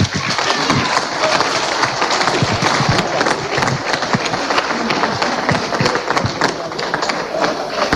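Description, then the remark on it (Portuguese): A large crowd at an event of the Portuguese pigeon-racing federation (Federação Portuguesa de Colombofilia) bursts into sustained, loud applause for its officials, dense overlapping claps filling the whole stretch at a steady level without letting up. “Para todos eles, uma grande salva de palmas.”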